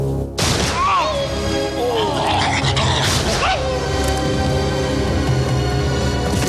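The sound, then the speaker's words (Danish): In a movie scene, a sudden loud gunshot bursts out as a dog is shot, followed by sharp, sliding yelps of the wounded dog, all buried in a dense, loud movie soundtrack with crashing noise and some voices. “ser ikke, hunden bliver skudt.”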